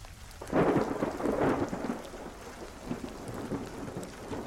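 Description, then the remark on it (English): A rumbling roll of thunder swells early and fades slowly beneath steady, hissing rain, a full thunderstorm heard with no voices present. “The night was dark and stormy, the kind of night that sends shivers down your spine even before anything unsettling happens.”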